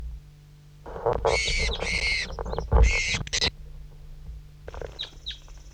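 bird, bird chirping

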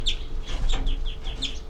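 bird, bird alarm call

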